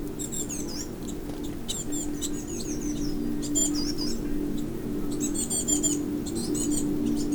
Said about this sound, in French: Les gazouillis d'oiseaux ne s'y trompent pas. À l'abri du vent.